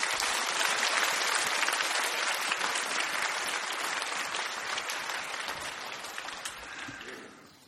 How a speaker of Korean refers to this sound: 귀한 목사님 보내주신 하나님께 감사드리며 박수로 맞이하겠습니다.